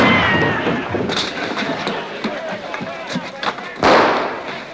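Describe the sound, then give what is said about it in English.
Several sharp gunshots, fired by a patient at 2:30 in the morning, crack at irregular intervals, with a louder burst near the end, over a busy background of muffled voices and movement. “That's gunfire.”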